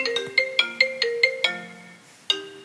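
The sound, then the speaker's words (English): A phone ringtone for a call from an unknown number around midnight plays a quick, bright melody of chiming electronic notes, pausing briefly before one more tone sounds. It is clear, with no voices. “That evening, around midnight, we both received phone calls from an unknown number.”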